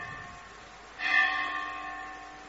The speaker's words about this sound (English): Right, the bell is giving us misery.